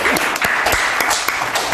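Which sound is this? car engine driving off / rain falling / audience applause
audience applause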